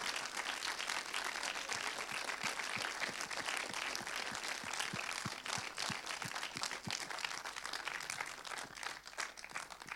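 An audience applauds steadily, a dense wash of many hands clapping with no pauses, holding an even level from start to finish without any voices on top.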